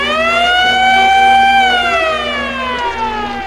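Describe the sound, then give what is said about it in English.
A loud, sustained horn-like siren blares with a rich stack of harmonics, its pitch rising slightly and then sagging downward, like a hockey arena goal siren sounding alone. “Hockey siren.”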